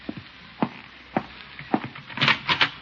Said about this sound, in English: Well, great. I'll open the door for him.